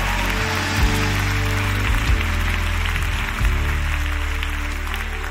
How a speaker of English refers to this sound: We are excited. Clap your hands for Elevation Nights.